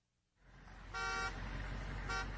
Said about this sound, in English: Headlights appear, and a panel truck pulls in the motel lot.